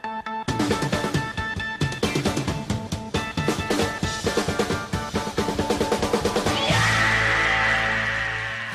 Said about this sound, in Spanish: Nunca me acostumbro a este grito. Entra de bien. Sé que lo comentamos siempre, pero es que hace falta. Y es que esta canción, vamos, te pone en tu sitio, ¿eh?